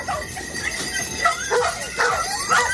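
A dog barks in short yips and lets out high whimpers, several quick calls across a few seconds, moderately loud, with no one talking.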